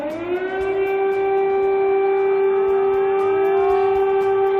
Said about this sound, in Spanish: Las sirenas dieron una tregua durante la noche, pero han comenzado a sonar desde primera hora de la mañana.